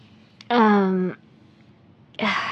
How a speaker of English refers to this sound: It's just, I need to calm down. Deep breathing. Lots of deep breaths here.